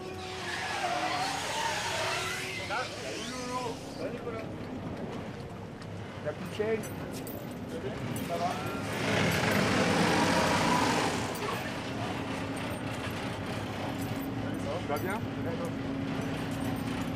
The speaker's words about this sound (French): Tiens, en parlant du bateau, le voilà qui arrive.